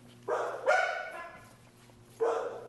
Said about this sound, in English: One way Red Cross is spreading the word is through animal shelters, who encourage anyone adopting dogs, like these you hear at the Fayetteville Animal Shelter, to download the app for reference.